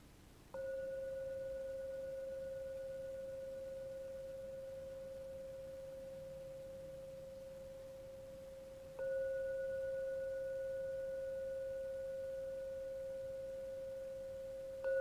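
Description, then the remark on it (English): A meditation gong is struck to end a meditation and rings on as a pure, steady hum that fades only slightly, then is struck again after a long pause and a third time at the very end, with no talking. “Let the ringing of the gong lead you out from the meditation back into the world.”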